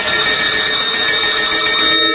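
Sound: ringing bells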